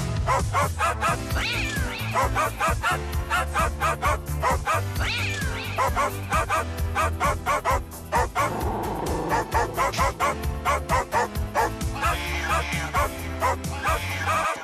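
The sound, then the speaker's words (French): Dog barks and yips pitched into the bouncy melody of a nostalgic song sung by dogs and cats, firing in quick rhythmic bursts over a steady thumping backing beat, loud and continuous from start to finish. “Vous retrouvez la chanson ce matin de nos chiens et nos chats.”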